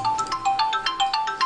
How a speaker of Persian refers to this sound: بندوز جان، تلفن.